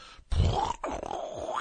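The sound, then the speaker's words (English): Heavy, strange breathing over a muffled, narrow-sounding phone line, a loud rasping breath followed by a drawn-out groaning exhale, with no words spoken. “Weird, heavy breathing.”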